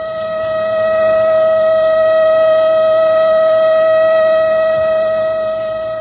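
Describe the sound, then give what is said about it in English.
A loud siren blares a steady, unwavering tone for several seconds, swelling slightly at the start and easing off at the end, with no voices present. “With a siren, the editorial offices of the Transcript had emptied in a wild brouhaha of panicked exit.”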